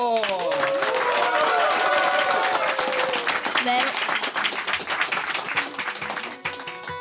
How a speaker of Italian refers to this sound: Applauso!